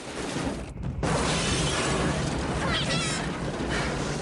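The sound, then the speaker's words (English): A violent crash of a car driving straight through a white clapboard house, crashing from room to room and bursting out the other side, with loud splintering, shattering and tumbling debris that roars on for several seconds after a brief lull near the start. “They drive straight through the white clapboard house, crashing from room to room and bursting out of the other side.”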